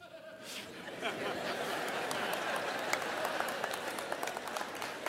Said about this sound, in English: Now, that being said, all the people with difficult marriages are clapping right here right now, or I'm not sure. Some people got really into that statement.